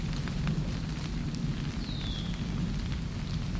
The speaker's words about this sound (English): There are so many caterpillars in the trees in this neighborhood that it constantly sounds like it's raining. Except it's not raining. It's caterpillar poop, called frass, falling through the trees. Listen.